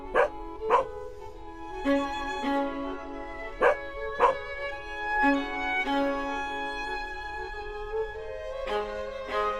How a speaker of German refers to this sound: also da gibt es sogar einen bellenden Hund.